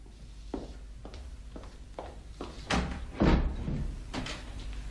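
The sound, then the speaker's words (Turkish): A door is opened as police arrive: several soft, evenly spaced thuds lead into a louder clunk and a rattling, scraping burst of the latch and door moving, then a fading rustle. No one speaks. “Kapıyı açar mısınız”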